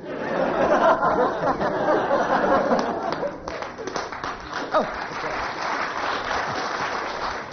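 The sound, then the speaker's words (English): Sustained applause from an audience at the end of a series, a dense wash of clapping that stays loud throughout, with some laughter and chatter mixed in. “But it's always nice to end on rapturous applause.”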